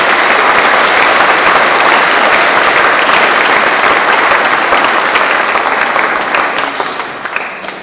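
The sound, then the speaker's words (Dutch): An audience applauds steadily in thanks to a pianist for his years of playing, a loud, dense wash of clapping that holds for several seconds before gradually thinning and fading toward the end. “Mag ik ook een applaus voor al die jaren”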